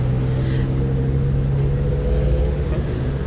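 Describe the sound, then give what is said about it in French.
Steady rumble of car engines idling and creeping along in street traffic, with cars sitting on a pedestrian crossing while the crossing light is green, a low droning hum that holds at an even loudness throughout, with no voices. “C'est vert, mais il y a des voitures sur le passage piéton.”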